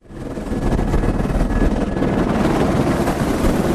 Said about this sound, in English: The helicopter banks into a turning descent above Mendenhall Glacier.